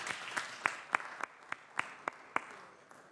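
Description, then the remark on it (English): Thin, scattered applause from a small audience on the Senate floor, welcoming members of the Zeta Phi Beta sorority: about ten distinct hand claps in a steady, fairly quick rhythm, heard at moderate volume with no voices. “Well, please give them a round of warm applause again.”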